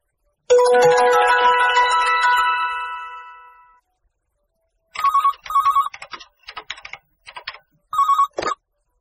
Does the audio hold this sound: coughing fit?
no